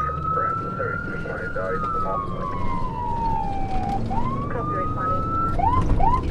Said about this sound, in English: There's a big adrenaline rush when you know you have to go lights and sirens.